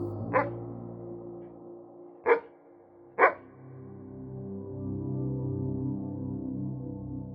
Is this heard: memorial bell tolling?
no